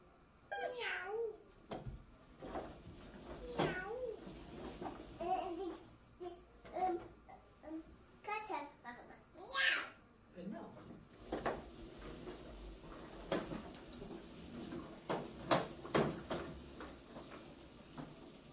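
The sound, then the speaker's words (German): A small cat gives several high, wavering meows that come and go over about eighteen seconds, fairly clear, mixed with soft babbling and quiet household clatter. “Schöne kleine Katze. Ist das aber auch eine Katze?”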